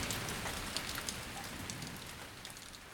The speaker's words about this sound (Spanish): Pero cuando vino la noche, la tempestad sopló fuerte. El viento le sacudió y no quedó ni una sola de sus hojas.